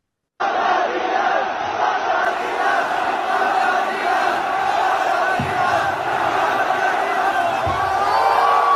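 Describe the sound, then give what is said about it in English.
A large crowd of Chinese kids chants "fuck Adidas" and screams together in a dense, continuous roar that fills the whole stretch, loud, with occasional thumps breaking through the noise. “They're screaming "fuck Adidas" is what's happening in this clip.”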